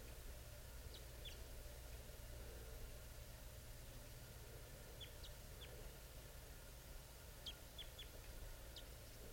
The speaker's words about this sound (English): I see the male. He's coming down. Pointed at the male. He's giving chitter right now.